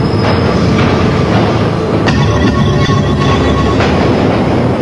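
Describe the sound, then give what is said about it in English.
A loud, steady roar of a New York City subway train rolling past, with rumbling wheels and a few sharp metallic clacks over the track, and no voices. “Light bulbs filled with bacteria were dropped in front of trains and down ventilation shafts to test how far the bacteria would spread through the subway system.”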